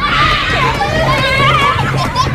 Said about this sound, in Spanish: Ahora están escuchando el mismo parque en verano, lleno de niños gritando y tocando los huevos.